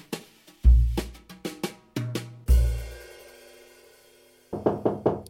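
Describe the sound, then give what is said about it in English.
Knocking at a door: a rhythmic series of raps mixed with a few heavy, booming thuds, then a quick burst of four or five rapid knocks. No voices. “Another knock at the door?”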